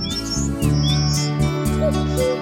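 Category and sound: bird, birds chirping outdoors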